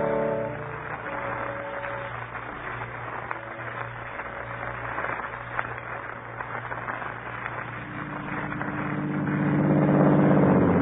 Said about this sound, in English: I got up and went over to the car and drove off.